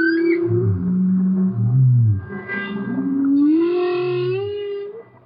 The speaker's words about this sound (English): I said, well, no, other pieces on the record are studio creations, but this is live underwater clarinet and humpback whale. This is what happened.